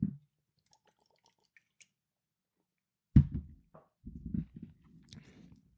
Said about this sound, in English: Think about that for a second as I take a sip of my energy drink.